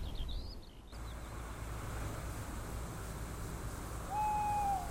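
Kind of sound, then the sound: bird, owl hooting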